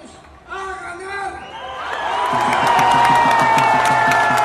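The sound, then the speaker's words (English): A large crowd at the National Party's late-night Sunday rally cheers and applauds as conservative former president and presidential candidate Luis Lacalle addresses them, the noise building from scattered shouts into a loud, sustained roar with rhythmic clapping and whistles near the end. “The energy at the National Party's late-night rally Sunday was upbeat, as the conservative former president and presidential candidate Luis Lacalle addressed the crowd.”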